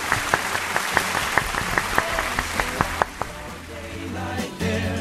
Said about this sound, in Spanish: Le damos el aplauso del día pues sí, a John. Me encanta. Enhorabuena, amigo.